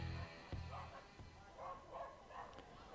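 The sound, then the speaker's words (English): Dogs bark angrily in a rapid series of sharp bursts, one dog in particular going after another, over a low background rumble and faint murmur. “Dogs are angry down there. One dog in particular wants a piece of another.”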